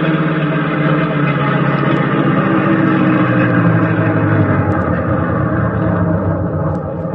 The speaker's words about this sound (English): Drive up fast and stop at the last minute, but keep the engine running.